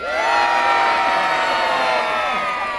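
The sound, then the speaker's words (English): A crowd at a knights' fight cheers loudly and steadily for the champion Sir Walter Rottesley against the Black Knight, a dense wash of many overlapping voices and high shouts holding at full volume for about three seconds before easing slightly at the end. “However, if you wish to cheer for a hero and a champion, then would you cheer for Sir Walter Rottesley?”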